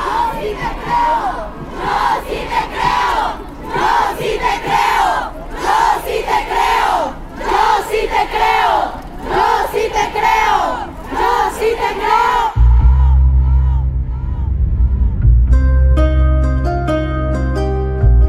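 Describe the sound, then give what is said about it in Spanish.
A large crowd at a protest march chants and shouts in loud rhythmic bursts for about twelve seconds, then the voices cut off and a low, sustained musical drone with chiming tones takes over. “necesitamos hacer un cambio y a veces el único cambio y lo único que podemos hacer desde la individualidad es marchar y estar aquí y gritar los nombres de nuestros abusadores y gritar los nombres de nuestros violadores y mandarlos a la verga.”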